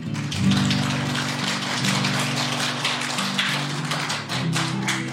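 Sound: audience applause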